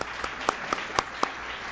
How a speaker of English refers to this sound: Thank you so much to all of our wonderful first speakers. Let's have another round of applause for them.